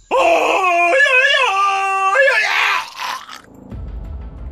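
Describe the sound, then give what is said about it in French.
A loud human voice imitates Tarzan's yodelling jungle-man yell, its pitch leaping up and down in a warbling cry for about three seconds, then fading into muffled low noise. “Il met la corde autour de son cou et saute en faisant le cri de Tarzan.”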